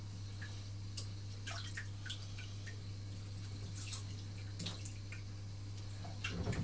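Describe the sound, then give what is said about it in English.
Scattered water drips and small splashes in a bath, irregular, over a steady low hum, with a slightly louder slosh near the end. “I think it's nearly time to get out, actually, because that water must be cold now.”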